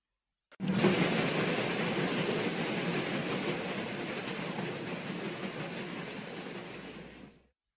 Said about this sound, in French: Ils virent ainsi passer devant eux cette chose immense, pleine de fumée et frappant l'eau, qu'est un bateau à aubes qui naviguait pour la première fois sur ce fleuve. Le bateau à vapeur passa, s'éloigna et disparut.